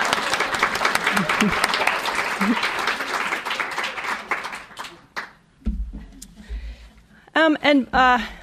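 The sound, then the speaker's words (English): A crowd applauds steadily for about five seconds, a dense wash of clapping that fades out, followed by a man starting to speak. “So, ladies and gentlemen, a round of applause for the human anal sphincter.”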